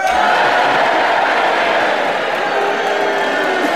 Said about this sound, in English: and you want him to have the subject and you think it's a legitimate challenge, you cheer for him. And if you disagree, you all boo the challenge and you all do it together now.